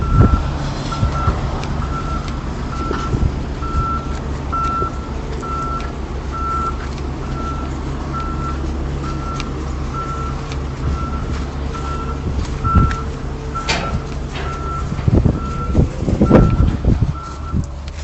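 A truck reversing at a construction site: its alarm beeps steadily, a single mid-high tone repeating at an even pace over a constant low diesel rumble, with a few louder clanks and engine surges toward the end.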